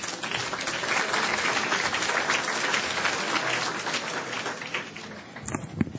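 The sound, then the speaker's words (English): Sustained applause from a large audience at a commitment luncheon of the Clinton Global Initiative, welcoming Education Group Chair Gene Sperling: a dense, steady wash of many hands clapping at once, holding fairly even for several seconds before thinning slightly toward the end. “At this time, would you please give a warm welcome to the Education Group Chair, Mr.”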